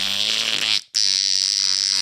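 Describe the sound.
A voice imitates a rattling hippo fart with a loud, buzzy, sustained raspberry that breaks off briefly partway through, then resumes just as steady.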